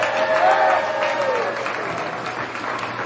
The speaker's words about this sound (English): And getting an ovation from both sides.